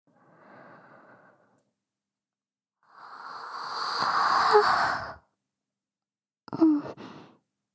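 A woman lets out a long, breathy yawn in bed at bedtime, preceded by a soft exhale and ending in a short voiced sigh, all quiet with no talking.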